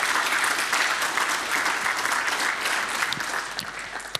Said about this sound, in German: Ich danke auch für den interessanten Vortrag und ich bitte nochmal um eine Runde Applaus.